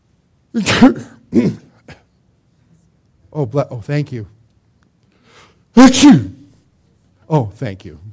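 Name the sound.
sneeze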